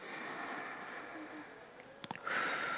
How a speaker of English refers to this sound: Let's take a deep breath. Breathe in and out.